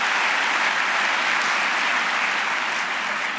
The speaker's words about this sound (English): So let's give them a wonderful round of applause.